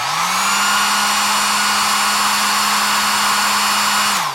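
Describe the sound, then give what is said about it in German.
Two hair dryers, one a Braun, set equally far from the microphone, run together as one loud, steady blowing roar with a low motor hum, holding constant for about four seconds before winding down. No voices. “Und wenn ich beide gleichzeitig anmache, dann hört man den einen gar nicht mehr, weil der andere alles übertönt.”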